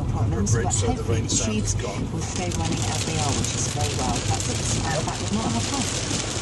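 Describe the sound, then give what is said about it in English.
Torrential rain drums steadily and loudly on the roof of a car sitting in a traffic jam in Hammersmith, London, a dense unbroken crackling roar, with muffled voices talking underneath throughout. “Not sure how well it comes down the recording, but it is torrential.”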